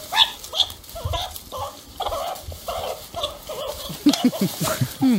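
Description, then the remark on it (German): Meerkats screaming during a fight between rival clans: a dense, continuous chorus of shrill, overlapping squeals and harsh chatters, with sharp rising and falling calls, loud and unbroken, somewhat like a squabbling henhouse. “In 9% der Fälle gab es daraufhin einen Kampf, weil die Erdmännchen sauer waren, begleitet von Geschrei, und so hört sich das an.”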